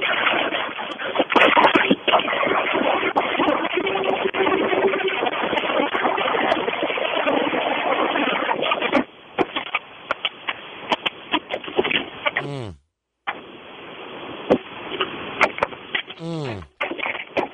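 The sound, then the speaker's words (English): A car crusher grinds steadily as a man crushes a car flat, with rough, dense mechanical roaring and scattered crunching crackles, captured through a muffled phone held up to it; the sound cuts out briefly near the end before resuming. “Listening to a man smash a car in a car crusher.”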